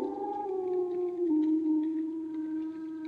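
A single long, mournful wolf howl holds a steady tone and slowly sinks in pitch, loud, with no voices around it.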